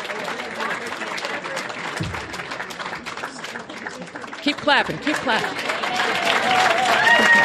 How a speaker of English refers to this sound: Keep clapping.